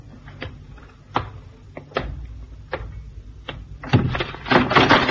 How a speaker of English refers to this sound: Hey, what was that? Trap door. See in the corner. Uh-huh. As we came under the bridge, somebody did a disappearing act down the trap door.